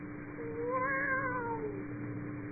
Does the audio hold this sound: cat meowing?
yes